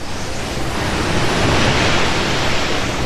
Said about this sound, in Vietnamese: Một cơn lốc xoáy từ Đại Tây Dương đã cuốn những con sóng thủy triều đánh vào bờ, khi biển Bắc bao trùm lên đất liền. Bốn trăm năm trước, đây còn là một vùng đất, nơi giờ đây là những con sóng hung dữ.